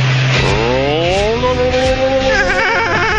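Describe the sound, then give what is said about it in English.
A boat motor coughs and strains as it tries to start, its pitch rising and wavering unsteadily. The sound is loud, with no one talking. “The boat motor almost started that time.”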